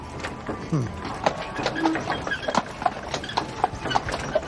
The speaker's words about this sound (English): A horse-drawn carriage arrives.